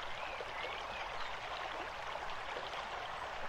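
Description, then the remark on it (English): Cool water trickles steadily over and around warm stones in a soft, continuous babble, fairly quiet and even throughout, with no voices present. “Notice the sensation of your spine on the warm stones as the cool water trickles around them.”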